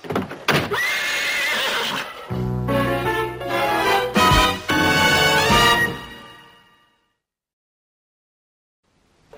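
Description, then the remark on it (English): A horse neighs loudly, a drawn-out whinny with shaky, wavering pitch lasting several seconds, followed by silence. “You have 24 hours to dispose of that horse.”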